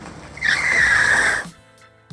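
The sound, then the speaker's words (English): Car brakes let out a loud, sustained high-pitched screech for about a second, then cut off abruptly, leaving a faint hum and a brief thump at the end. “Keep moving or hit the brakes.”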